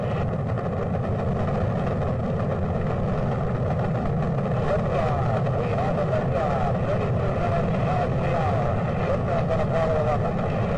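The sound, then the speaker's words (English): Rocket engines of the Apollo 11 moon mission thunder at liftoff after a countdown to zero, a steady, dense roar with deep rumble and crackling texture, holding loud and unbroken for the full stretch with no pauses. “5, 4, 3, 2, 1, 0. All engines running.”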